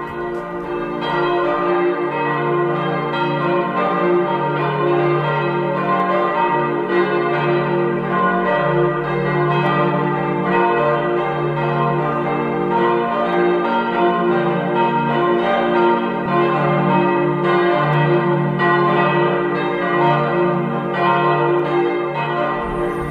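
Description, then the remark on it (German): The morning ringing of the bells of the parish church of St. Nikolaus in Neuerburg in the Eifel: several bells ring together in a full, continuous peal, their overlapping strokes and long resonant tones sustained at steady volume throughout, with no voices. “dies sind die Glocken der Pfarrkirche St. Nikolaus aus Neuburg.”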